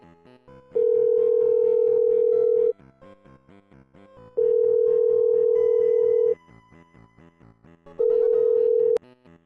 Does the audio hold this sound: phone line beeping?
yes